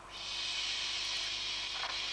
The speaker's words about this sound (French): Allez, on va encore la laver. Allez. Lui lave la tête. Bon, ça c'est la douche.